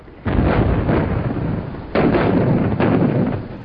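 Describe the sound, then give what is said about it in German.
Heavy artillery shells explode in a First World War bombardment, a deep, thundering rumble with big booming onsets near the start and about two seconds in, then sustained roaring crashes and no voices. “Wildes, donnerndes Krachen, das den Steinboden erschüttert, reißt die Schlafenden auf, wirft sie in die Höhe, Schlag auf Schlag, Zischen und Heulen in den Lüften.”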